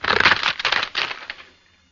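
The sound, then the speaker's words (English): Wooden fruit boxes being broken to make a sound effect for the Mr. District Attorney show, a loud burst of splintering cracks and crunches lasting about a second and a half before trailing off into quiet. “It was made up originally of some fruit boxes being broken, like this.”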